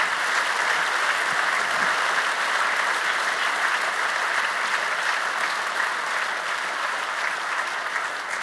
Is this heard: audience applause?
yes